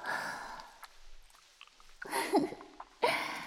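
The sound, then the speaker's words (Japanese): Soap lather being rubbed and squished as soap is spread on someone, a wet, crackly hiss coming in three bursts with a brief lull between them, with no one talking. “いい感じに泡も立ってきたわ。”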